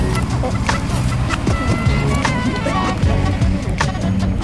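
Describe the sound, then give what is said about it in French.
A delivery truck delivering the beach hut at Broussard beach rumbles steadily in the morning, its low engine drone filling the background, with scattered knocks and clatters and faint voices mixed in. “Et ce matin, alors qu'on enregistre, on entend le camion qui livre la cabane de la plage de Broussard.”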